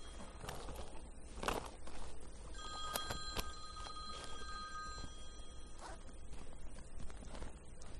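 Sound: mobile phone ringing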